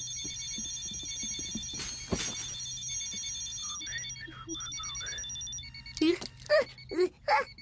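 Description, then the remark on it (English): Several alarm clocks ring together in a dense, steady metallic clamor that fades after a few seconds, followed by scattered beeps and brief vocal sounds. “All the clocks went off and they all say the same thing.”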